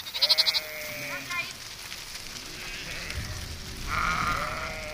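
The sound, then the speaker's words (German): Sheep leaving their pasture in autumn bleat in overlapping, wavering calls, one at the start and another near the end, over a steady outdoor background with a brief rapid ticking sound at the very beginning. “Im Herbst verlassen die Schafe ihren Weideplatz.”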